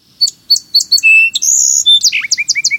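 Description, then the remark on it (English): A song sparrow sings a bright, clear phrase: several sharp introductory notes, a sustained buzzy trill, then a quick descending jumble of chips, loud with no talking. “These clear spring notes belong to a bird celebrated for its singing, the song sparrow.”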